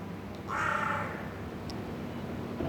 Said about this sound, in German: weiß ich sicher, es handelt sich um Rabenkrähen. Sie sind vollkommen schwarz. Und ich vermute, dass es sich um ein brütendes Paar handelt,